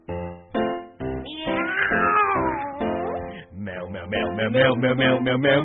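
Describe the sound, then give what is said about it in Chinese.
A voice imitates cat meowing in a Chinese-language song: three short meows, then a long, wavering, sliding yowl, followed by quicker meow-like calls over a busy, loud musical backing. “喵，自老鼠都要捕捉，勤力不偷懒。”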